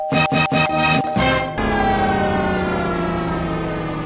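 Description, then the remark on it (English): A malfunctioning doorbell blares in several rapid, stuttering bursts, then locks into one loud, continuous electronic buzz-tone that drones on steadily with no voices. “I think the doorbell's gone haywire again.”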